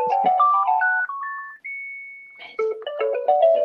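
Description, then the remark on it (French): A mobile phone ringtone plays loudly, a bright electronic melody of stepping tones that rises to a long held note, then resumes its busy tune, with no one speaking. “Allez, mon téléphone qui ne peut pas s'arrêter.”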